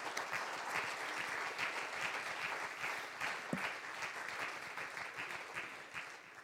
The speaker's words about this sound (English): Let's clap our hands to the Lord tonight. Amen.